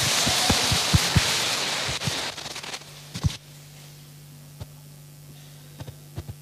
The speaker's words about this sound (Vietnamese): Cho một tràng vỗ tay để tán dương bạn nữ.